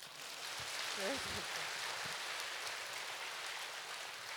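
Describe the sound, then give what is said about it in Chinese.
A steady wash of clapping from a crowd fills the whole stretch, dense and even, with a brief voice sounding faintly underneath near the start. “他吃很多，鼓掌。”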